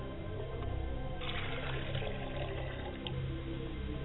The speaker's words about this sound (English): Ladies and gentlemen, I like to pour a glass of water for my father's spirit, and I say Ashe. I like to pour a glass of water for my mother's spirit, and I say Ashe.